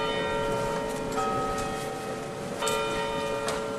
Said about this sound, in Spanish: Las campanas de varias iglesias han sonado de fondo mientras la presidenta Isabel Díaz Ayuso y el alcalde Martínez Almeida depositaban una corona de laurel a los pies de la placa que recuerda a las víctimas